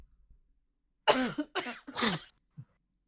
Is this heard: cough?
yes